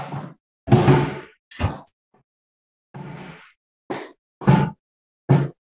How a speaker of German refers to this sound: Ich mach mal kurz Fenster zu. Einen Moment.